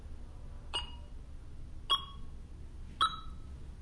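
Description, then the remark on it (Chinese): Three short electronic progress beeps from a software installer setting up the Langming industry management system client, spaced roughly a second apart, each a brief bright tone over a quiet low background hum, with no talking. “其实我们都不用看进度，就听它这个滴滴滴就可以了。”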